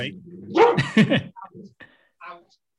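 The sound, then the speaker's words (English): A dog barks loudly, two sharp harmonic barks in quick succession, followed by a few softer, shorter yips or whines that trail off into quiet. “We got a dog this week.”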